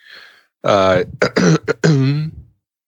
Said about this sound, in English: Everybody loves it when I clear my throat live on a podcast, so I'm going to do it often.